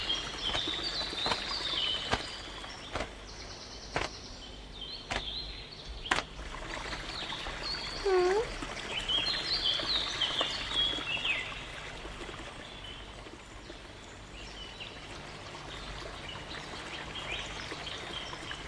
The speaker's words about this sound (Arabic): ما شاء الله، ما أجملها من طيور، ليتني مثلها.